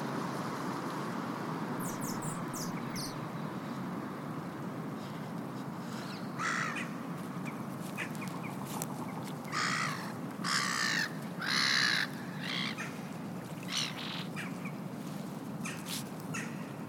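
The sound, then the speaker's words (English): Ducks and other birds squabble and call at a small lake, with a run of harsh, raspy squawks and caws bursting out in clusters over a steady outdoor hiss. No one speaks. “I stop there to listen to ducks and birds fighting and singing.”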